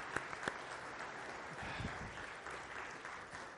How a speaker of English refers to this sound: Now, we have a good-looking team here, don't we? How about if we just give them a round of applause while we're standing up here?